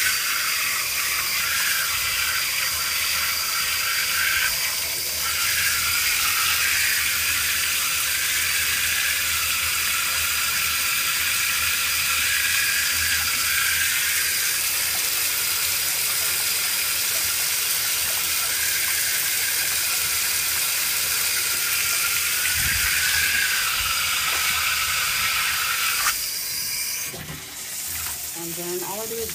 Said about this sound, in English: Next, I turn back on my shower. And I like the water rinse a little bit.